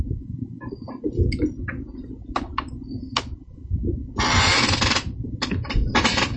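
A chair squeaks and creaks in irregular bursts, with thin high-pitched squeals and clicks, then a longer, louder scraping rasp near the end over a low rumbling background.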